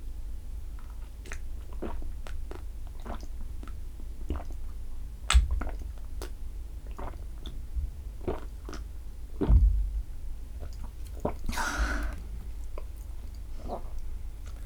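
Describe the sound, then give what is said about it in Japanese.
Wet gulping and swallowing sounds repeat in a steady rhythm as someone continuously drinks 500 ml of milk tea, with soft mouth clicks and a couple of louder gulps, no talking. “それでこのミルクティーをごくごく飲んでいくよ。”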